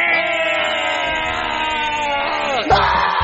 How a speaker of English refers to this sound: Why are y'all screaming in my damn kitchen? I can't even have 5 minutes of peace. There's a guy with a gun chasing us.